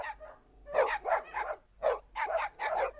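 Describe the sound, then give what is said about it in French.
Dogs bark in a quick run of about six sharp barks over a few seconds, with brief gaps between them and no voices, as a man calls his dogs to go hunting. “Sur ces mots, il appela ses chiens et partit pour la chasse, sans plus songer à son propos.”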